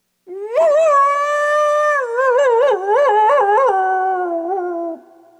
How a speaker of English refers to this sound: Until finding all the noble voices taken, Coyote became very sad at not having a voice and howled out his unhappiness.